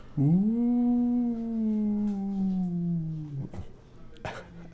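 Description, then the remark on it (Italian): A voice imitates the whistling howl of a draft through a door: one long, steady moaning tone that slowly sinks in pitch for about three seconds, followed by a few brief rustles. “il suono dipende da dove passa la corrente d'aria, quindi se passa in mezzo a una porta oppure passa in mezzo a una fessura stretta farà un suono tipo il classico ululato della corrente, no?”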